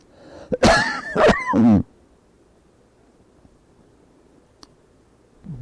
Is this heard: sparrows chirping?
no